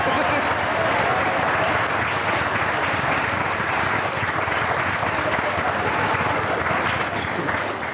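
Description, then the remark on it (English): A large audience applauds steadily, a dense wash of clapping that holds at an even, fairly loud level for the full eight seconds without building or fading. “Just let me check that applause. Because there's very little in it.”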